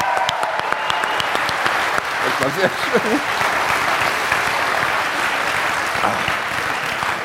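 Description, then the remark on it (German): Steady, dense clapping from a crowd for someone's birthday, following a birthday song, fills the whole stretch at a fairly loud, even level, with a man's voice briefly speaking over it partway through. “einen Applaus bitte.”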